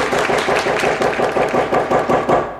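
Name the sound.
audience applause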